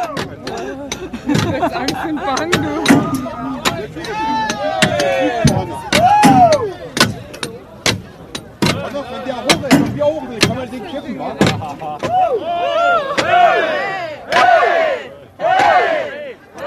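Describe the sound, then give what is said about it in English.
Many people hammer pieces out of the concrete Berlin Wall in Berlin, Germany, their sharp metallic knocks landing in an irregular, overlapping rhythm over a loud, lively crowd with raised voices and occasional shouts. “I mean, the wall packers were everywhere, and this is the noise I took with me from this trip, this tock, tock, tock, tock, tock, this hammering, because it was there.”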